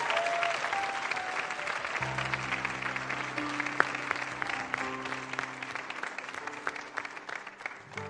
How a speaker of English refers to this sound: Church, can we clap for those who make commitments to follow Jesus today?